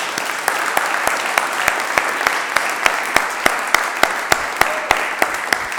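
An audience claps steadily, a dense wash of many hands with sharp individual claps popping out at a quick, fairly regular pace, sustained at an even loudness throughout with no voices.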